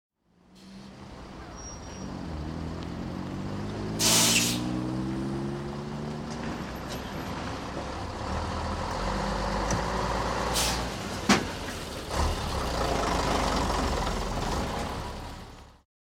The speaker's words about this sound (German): Der Bus.